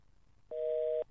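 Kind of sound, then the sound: signal or alarm, telephone busy signal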